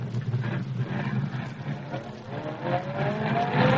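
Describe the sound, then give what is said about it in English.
A car engine roars steadily and loud, then revs higher and climbs in pitch as the vehicle accelerates hard and speeds away, with a rough rumbling underneath throughout. “Put your foot down and get all you can out of her.”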